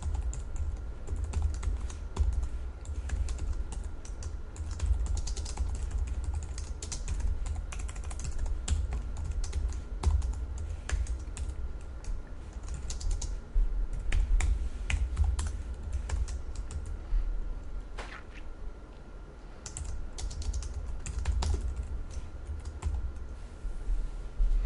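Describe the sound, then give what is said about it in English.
Steady computer keyboard typing runs throughout as code is entered, including a period to call up IntelliSense properties, a dense stream of crisp key clicks with brief pauses, over a low constant hum and no voices. “So I'll go my new car, and I'm going to use the period on the keyboard.”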